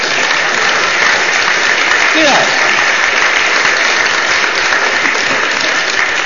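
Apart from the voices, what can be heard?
audience applause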